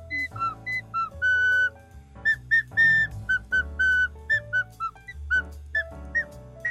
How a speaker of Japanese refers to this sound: 音階出ない。 なるほど。 残念。 残念無念。 でもこうやって吹けるボールペンなんですよ。可愛らしい。 すごいですね、それは。楽器にもなるボールペン。